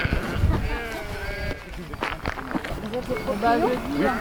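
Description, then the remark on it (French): Several sheep bleat in a pasture in the commune of Moiré, Val-d'Oin, their wavering calls overlapping over a steady outdoor bed of shuffling and movement. “Pas des vignes, des moutons.”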